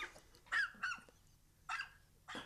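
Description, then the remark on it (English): Dogs bark in a room: four sharp, harsh yelps in quick, irregular succession, loud against a quiet background, with no one talking. “Okay, sorry, they took the dogs.”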